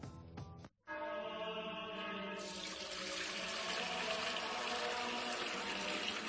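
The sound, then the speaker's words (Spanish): A brief splash and pause, then a steady stream of Fuente Umbría pure spring water pouring and filling a container to be blessed as holy water, the pitch rising slightly as it fills, loud with no talking. “es que no nos quedaba agua bendita.”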